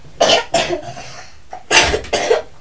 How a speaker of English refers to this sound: Oh, you're still coughing